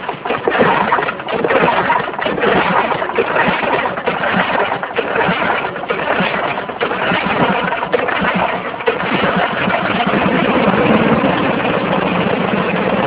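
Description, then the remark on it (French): A small petrol engine, just started after priming with a drop of petrol, runs at a steady idle, its rough, rapid chugging putter holding an even loudness for the whole stretch, with no voices. “Le démarrage n'a pas été trop difficile, hein.”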